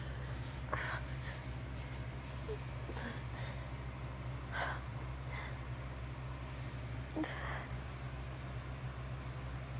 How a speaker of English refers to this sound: throat is getting really dry now. I don't want all this breathing. Heavy breathing.